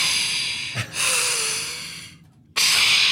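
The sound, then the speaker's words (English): A voice imitates the deep, rasping snore of a vehicle's desert air intake connected directly to the engine intake: one long, breathy, hissing inhale with a brief snort, then a pause and a loud noisy burst. “But it's connected directly to the intake, right? So it sounds like a walrus snoring. Or breathing.”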